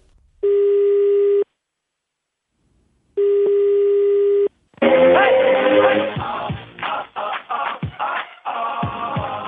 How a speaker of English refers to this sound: My colleague Stefan Mayu carried out a totally unscientific survey to find out if the call was heeded by ringing some numbers at random in Accra.